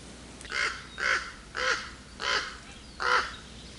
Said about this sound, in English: And this is kind of a quieter soundscape, which I like. You know, they've really paid attention to detail here. You hear birds and the breeze and all that, and my stupid voice.